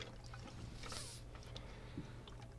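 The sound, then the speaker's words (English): Bourbon, about 2 ounces for an old fashioned cocktail, is poured into a glass in a short, soft trickle with a faint splashy hiss, followed by a few small clinks and drips against a low background hum. “Just listening to the pour.”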